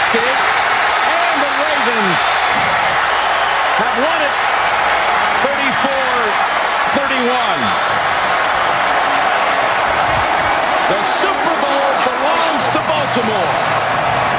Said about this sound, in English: Big crowd, big cheers, big win for the Ravens